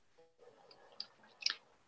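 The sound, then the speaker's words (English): A couple of soft mouse clicks as someone clicks to open a message, one around the middle and a slightly sharper one just after, over faint low background noise and no talking. “I was just clicking into it.”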